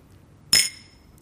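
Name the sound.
wine glasses clinking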